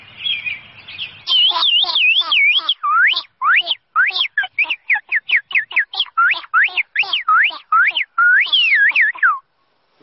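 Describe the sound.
A girl imitates birdsong by singing, producing a long run of high, rapid whistled chirps and warbling sweeps, loud and steady for nearly ten seconds with no talking.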